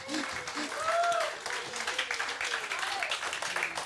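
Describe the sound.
A crowd applauds steadily for the whole stretch, a dense, even patter of many hands, with a few brief voices or whoops rising above it early on.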